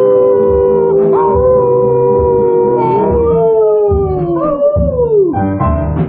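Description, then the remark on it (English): Several loud, drawn-out howls overlap and hold for seconds, their pitch rising and then sliding downward, over a steady low rumble, with no talking. “This is our call to roam, this is our night to howl, this is our night to howl.”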